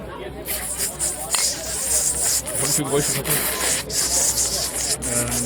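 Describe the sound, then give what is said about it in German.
A voice imitates fresh bacon frying in a pan: a steady, fairly loud hissing and crackling sizzle that runs for several seconds with small sputtering bursts throughout. “Frischer Bacon in der Pfanne. Ah, ja.”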